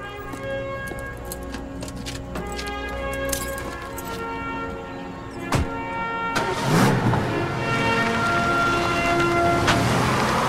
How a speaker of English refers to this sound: He turns and strides towards his car, gets in, and starts the engine.